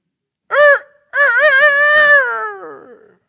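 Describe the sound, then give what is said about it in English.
A rooster crows once, a short opening note, a brief pause, then a long, loud, wavering call that slowly slides downward in pitch before trailing off. No one speaks. “The rooster crowed.”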